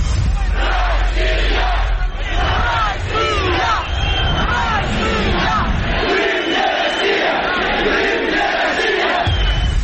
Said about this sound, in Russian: Народу было много. Каждый кричал свое. Мы за Украину кричали, они за Россию кричали.